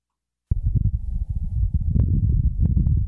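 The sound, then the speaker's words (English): After half a second of silence, a steady low, muffled rumble of wind on the surface of Mars, recorded by NASA's Perseverance rover, sets in and continues, buffeting and fluttering in the bass with a few faint ticks on top. No one speaks. “Thanks to NASA's Perseverance rover, we now have a better idea of what it sounds like on Mars. Are you ready for the sound on Mars?”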